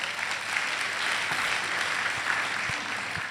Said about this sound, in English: Come on, let's give Jesus a clap offering.